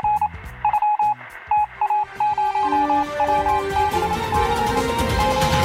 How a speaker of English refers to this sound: We had some more breaking news during the break regarding the show. Should I play the break news sound? Yeah, do it.